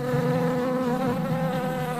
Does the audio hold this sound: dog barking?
no